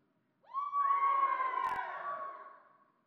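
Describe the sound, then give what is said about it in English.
A church audience erupts in a single sustained shout, one side of the room shouting once on cue, rising quickly and holding loud for about two seconds before trailing off, with a brief sharp click partway through. “This side, shout one time.”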